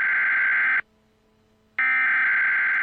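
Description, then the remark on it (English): A TV weather warning alert sounds: two loud, harsh, buzzy electronic tones, each almost a second long, separated by a short silent pause, with no voices. “It ran on the little ticker on the bottom That's of right. your, if you remember, and you'd hear that noise, the beep would come through.”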